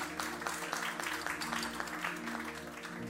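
An audience claps steadily for a few seconds, a dense, even patter of many hands with no voices rising above it.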